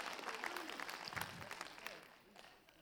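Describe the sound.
A church audience bursts into dense, crackling applause from many hands, clapping and calling amen when asked to, with a few voices calling out underneath, the clapping tapering slightly toward the end.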